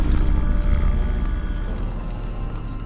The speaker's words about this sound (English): The sound sent chills over me. Another wolf on night prowl? Had the blood trail drawn it here?